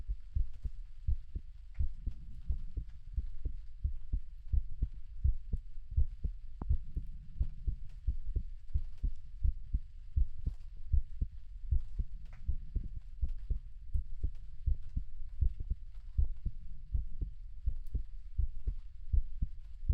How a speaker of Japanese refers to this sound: ほら、耳を澄ませて。私の心臓の音、聞こえるよね。